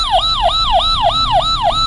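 A police car siren wails in fast, repeating up-and-down sweeps, loud, with a low rumble of engine or traffic underneath and no voices.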